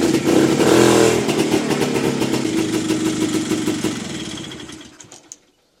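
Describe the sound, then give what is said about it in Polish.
A motorcycle engine runs steadily at a loud idle with a rapid mechanical chug, gradually quieting over several seconds before cutting off abruptly near the end. “Działa! O, jak ja lubię ten zapach.”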